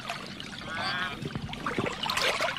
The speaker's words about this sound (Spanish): Mientras va caminando, con su corazón acelerado y sin saber qué pasará, ve de repente un pato grande, con bellas plumas y pico ostentoso, que toma un chapuzón en un lago.